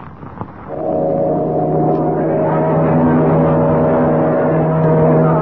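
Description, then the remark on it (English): After a brief moment of quiet, a boat's engine starts and settles into a steady, loud droning hum that swells slightly as the vessel pulls away from Manawa Harbor. “they're taking the next boat to Bermuda”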